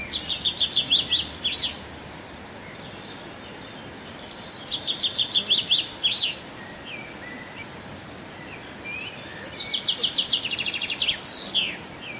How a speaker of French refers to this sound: c'est le pinson des arbres, qui a un chant un peu plus long, un peu plus complexe, mais avec des trilles